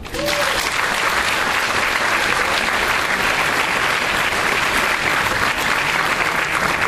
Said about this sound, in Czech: A proto ještě potlesk pro pana Jiřího Mrenku.